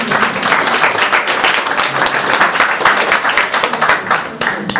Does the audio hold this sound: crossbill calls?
no